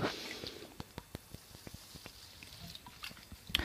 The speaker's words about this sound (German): Ich muss gerade meinen Schluck trinken, deswegen habt ihr die Wasserflasche gehört.